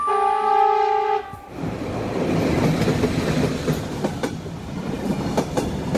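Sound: train running on rails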